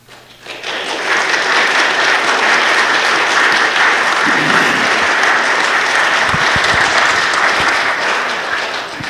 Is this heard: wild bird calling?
no